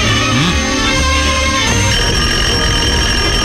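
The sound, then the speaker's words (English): A loud, steady modern telephone dial tone hums on without a break for several seconds, layered with a buzzy, slightly jangling wash of other tones and no voices. “That modern dial tone.”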